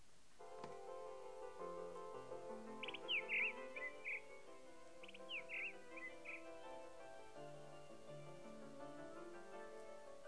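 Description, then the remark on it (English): Two quick bursts of bright, twittering bird chirps, a couple of seconds apart, sound over a steady, gentle electronic tune playing underneath, with no one talking. “Look at the bird.”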